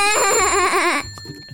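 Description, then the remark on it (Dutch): A small child playing with a bicycle bell: its bright metallic ring lingers throughout, partly buried under the child's loud, wavering wail that stops abruptly near the end. “Stop eens met het spelen met die bel, joh.”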